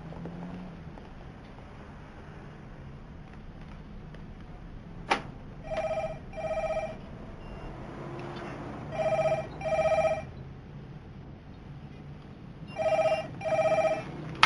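A telephone rings in three double bursts, each pair of short electronic trills separated by a few seconds of quiet, clear against a faint background hiss.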